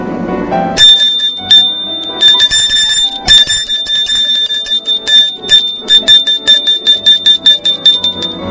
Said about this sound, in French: Puis la sonnerie a retenti pour que les cours reprennent.